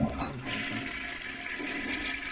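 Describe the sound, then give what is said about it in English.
A toilet flushes with a steady rushing roar of water, fairly loud, filling the whole couple of seconds without any voices. “I think if I keep flushing it, it'll solve the problem.”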